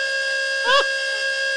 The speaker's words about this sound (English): That's our Satan alarm. When Satan's near, you'll hear.